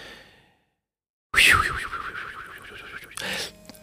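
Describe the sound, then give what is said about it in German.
An alarm clock goes off at 6 a.m. after a short silence: a sudden loud, warbling tone that wavers up and down in pitch for about two seconds, then a brief second burst before fading. “Oh, Wecker. Es ist 6 Uhr.”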